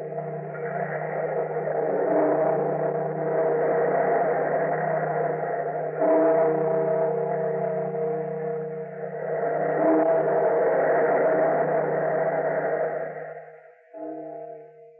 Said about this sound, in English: Bellkeeper, toll the bells.